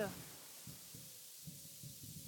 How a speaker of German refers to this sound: Das ist ein Taube, so keine Eule.